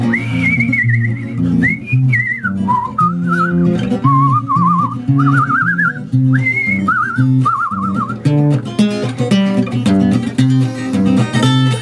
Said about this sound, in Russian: И я этот свист вставил, значит, в начало песенки, чтобы там как бы обозначить атмосферу. Вот таким свистом зовут лошадей на водопой.